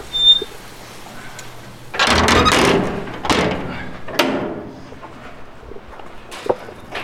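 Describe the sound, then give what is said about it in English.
Heavy metal doors on a barbecue pit smoker swing and clank shut, a broad scraping rumble followed by a couple of sharper bangs and a final thud, with no voices. “So I'm gonna shut these doors here and we can open up the firebox.”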